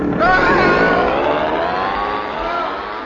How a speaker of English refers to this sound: Now, just fit this outboard motor onto the piano and...